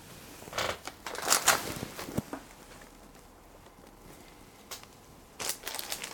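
Crinkling of the outer plastic bag from an already opened package as it is handled, with bursts of crackly rustling early on, a quiet pause in the middle, then another short round of crinkles at the end.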